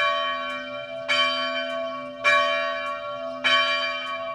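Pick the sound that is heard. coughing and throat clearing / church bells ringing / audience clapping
church bells ringing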